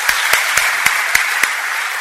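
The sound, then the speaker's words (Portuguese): Steady audience applause for a couple married 45 years, a dense wash of many hands clapping, with a few sharper claps standing out in a regular rhythm for the first second and a half. No one speaks. “Vamos a darle un aplauso por la vida de ellos.”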